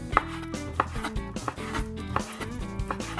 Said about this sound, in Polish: Oczywiście, zaczynamy. Na początku kroimy kurczaka w taką drobną kostkę.